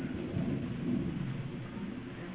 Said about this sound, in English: What is that? Airplane. I'm at an airplane? I thought that was a storm, like it was going to rain or something.